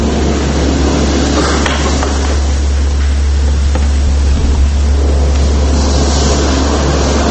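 sea waves

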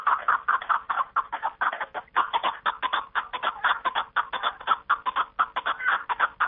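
partridge calling

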